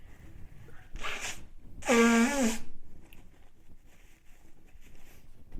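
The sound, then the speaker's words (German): Someone blows their nose twice: a short breathy puff, then a longer, louder honking blast with a reedy, wavering whine, followed by quiet rustling. “Ich muss mir kurz die Nase putzen, sorry.”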